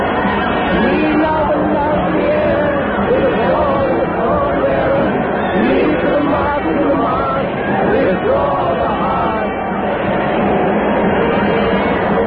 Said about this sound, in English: The crowd shrieks.